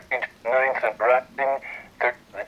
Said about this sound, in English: That's classic EVP. Starts with the preceding tone and gets louder when the events hit. It's faint and kind of sounds like men repeating numbers.